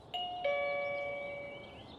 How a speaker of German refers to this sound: Nach 45 Minuten stehen sie mit fast leerem Tank und hoffnungsvollen Herzen vor der Tür. Gudrun drückt die Klingel. Nichts geschieht. Gudrun klingelt erneut.